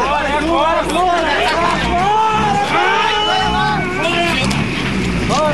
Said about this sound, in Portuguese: Aí eu gostaria que você também passasse a questão das condições das estradas, é bem rapidozinho, para a gente ver como é que está a situação ali daquele pessoal empurrando o ônibus ali. Esse aí.